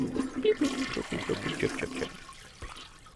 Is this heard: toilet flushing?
yes